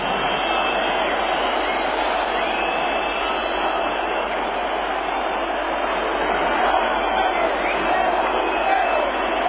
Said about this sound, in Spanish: Abucheos, ¿cómo escuchan para la ministra de Cultura en esa primera referencia que hace a Carmen Calvo Alfonso Usía?